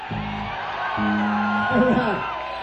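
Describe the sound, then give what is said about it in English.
An audience screams and whoops loudly, many overlapping voices forming a dense, sustained roar with a few rising shrieks standing out, steady throughout. “Scream loud.”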